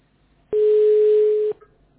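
A single steady telephone tone sounds for about one second, a loud, flat mid-pitched electronic beep with a faint hiss behind it, starting and stopping abruptly. No one speaks.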